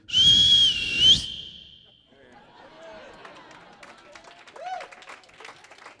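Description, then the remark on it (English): A man gives a single loud, shrill whistle blast held for about a second, with added reverb trailing off in a long echoing tail, followed by faint scattered bustling noises, aboard an old B-25 aircraft at midnight. “A little reverb on that whistle.”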